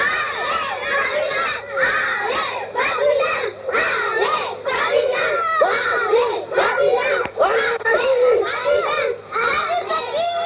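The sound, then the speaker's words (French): A crowd of children cheers and shouts together, a dense, continuous wash of high excited voices with rising and falling whoops, loud throughout. “Des acclamations s'élèvent de l'assistance.”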